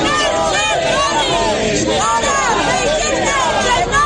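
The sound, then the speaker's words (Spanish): A dense crowd shouts 'fuera fascistas' and boos at defendants leaving the Ciudad de la Justicia in Valencia, many overlapping voices rising in loud, wavering yells and boos that never let up across the few seconds. “Al grito de fuera fascistas, han sido abucheados a su salida de la Ciudad de la Justicia de Valencia.”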